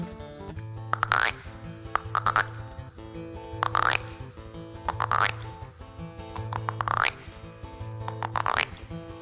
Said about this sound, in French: Eh bien, ce petit garçon, il s'assoit sur un tronc d'arbre et il écoute les grenouilles. D'abord, elles ne parlent que le langage des grenouilles, quoi. Quelques-unes disent...